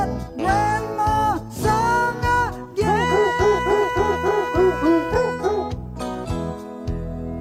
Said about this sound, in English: And that goes for the dogs barking.